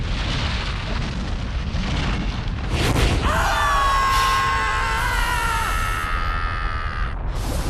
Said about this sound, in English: The volcano's going to erupt!